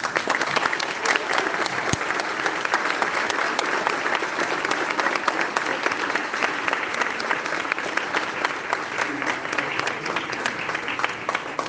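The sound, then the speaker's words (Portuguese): An audience applauds the teachers present on October 15, a dense, even wash of many hands clapping that stays loud and sustained for the whole stretch with no voices rising above it. “Antes de mais nada, nesse dia 15 de outubro, nós precisamos saudar a todos os professores aqui presentes com o nosso muito obrigado e com uma salva de palmas.”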